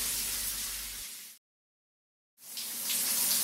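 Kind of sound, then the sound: household object, shower water running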